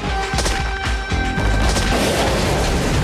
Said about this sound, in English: A huge explosion erupts from behind a hill.